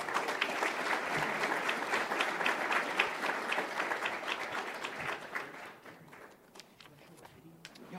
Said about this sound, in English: And let's have a nice warm applause